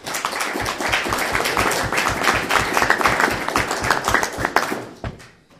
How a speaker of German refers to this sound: Den Applaus von euch hat es sich verdient.